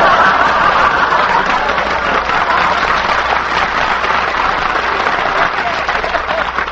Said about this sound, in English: I like him. He leads the applause. I like him.